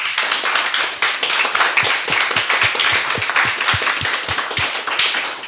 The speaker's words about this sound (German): Nur um sicher zu gehen, auch bitte nochmal Applaus für Steffen Seibert.